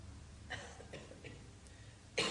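A single sharp cough bursts out near the end, preceded by a few faint, breathy sounds against a quiet background. No one speaks.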